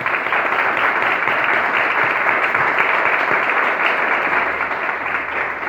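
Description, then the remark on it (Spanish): A crowd applauds steadily, many hands clapping in a dense, even wash of sound that holds at a constant loudness for several seconds with no voices rising above it. “es esa rubia que está atrás de la cámara ahí, un aplauso porque ha trabajado mucho.”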